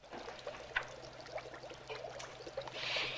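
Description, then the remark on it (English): Water trickles steadily in a fish tank, a soft continuous burble dotted with small splashy drips, growing slightly brighter and hissier toward the end. No voices. “She goes over to a fish tank and looks down into the water”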